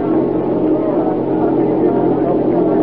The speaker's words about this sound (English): there's a car approaching. Well, whoever he is, he's a fool driving with lights.